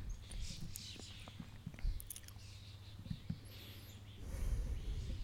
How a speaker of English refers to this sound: Oh my god, that's so scary. So many birds just flew over me.